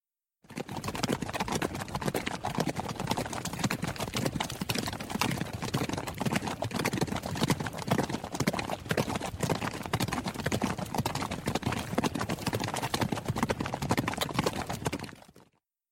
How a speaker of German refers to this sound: Können Pferde noch schneller reiten? Ja, wenn Pferde sehr, sehr, sehr schnell reiten, heißt das Galopp.